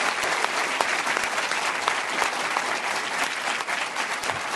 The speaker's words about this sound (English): So I just want to invite a round of applause for all of them.